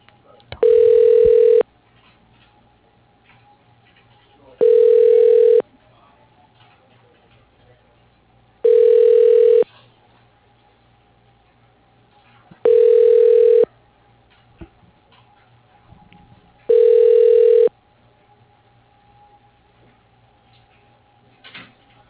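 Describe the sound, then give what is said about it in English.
A telephone hold tone on a call to Port City Logistics beeps five times at a steady pace, each a short, loud, mid-pitched electronic burst about a second long, separated by quiet gaps with faint line hiss. “Please hold.”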